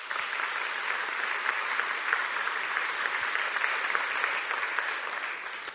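Steady audience applause fills the whole stretch, a dense, even patter of many hands clapping at a constant moderate loudness with no voices on top.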